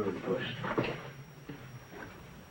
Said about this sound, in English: Richie steps into his bedroom and closes the door.